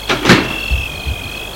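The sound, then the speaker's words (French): A man who has tried several keys eases a door open very softly, starting with a couple of sharp clicks from the latch, then a long, thin, high creak that drags on, with a few soft low bumps beneath it. “Ouvre tout doucement la porte.”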